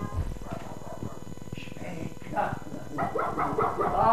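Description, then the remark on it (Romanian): A small dog yaps in a quick run of sharp, high barks that grow louder toward the end, with a person's voice talking underneath. “De când am intrat ordonanță la domnul locotenent Lucaș, dânsul nu-ți mai dorea altceva decât un gățel ca ăsta.”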